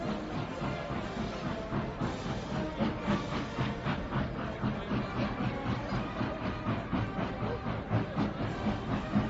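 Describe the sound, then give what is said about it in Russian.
A train rumbles close by with a steady rhythmic clatter of wheels over rail joints, a broad continuous roar with faint hissing that grows slightly louder as it nears. “Вон он, поезд, совсем близко!”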